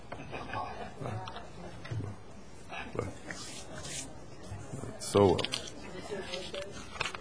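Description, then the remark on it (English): Crinkling and crackling of a cough drop wrapper being worked open, irregular bursts of rustle over several seconds, with a voice murmuring faintly in the background. “And I can't get the wrapper off of this cough drop.”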